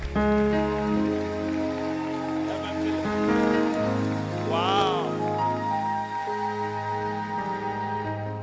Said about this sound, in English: Please clap your hands together for Reverend Philip.